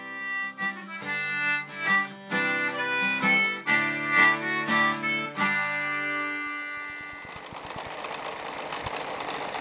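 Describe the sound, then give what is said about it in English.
A sewing machine runs steadily with a fast, even mechanical clatter and whir, moderately loud, coming in after a stretch of bright tonal music, in an advertisement for Singer Sewing Vac, a sewing machine and vacuum repair shop in Somerville. “Your one-stop shop for all your sewing machine and vacuum repair needs.”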